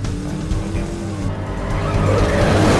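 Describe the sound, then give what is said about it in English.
A car engine drones loudly and steadily while tires squeal and scrub as the car's rear end slides while driving, the noise growing a little louder and harsher toward the end. “Feel that shimmy? It's your hind legs trying to outrun your front.”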